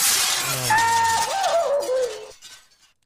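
Glass shatters in a loud crash as someone jumps through it, with bright shards ringing and tinkling for about two seconds before fading into silence.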